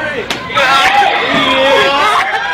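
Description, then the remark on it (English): A single sharp smack of a punch to the right temple of a man wearing khaki, a black winter cap and an American flag t-shirt lands early, followed by a steady wash of crowd chatter and overlapping voices. “You can hear the punch to the right temple.”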